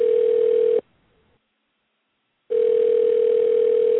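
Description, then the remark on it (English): A telephone line tone as a call is placed to Roy Wood Jr. on Soul Kitchen Radio: a steady, loud, mid-pitched electronic hum that cuts off for under two seconds of silence, then returns unchanged, like a call ringing through. No one speaks. “I'm going to get Roy Wood Jr. on the phone right now.”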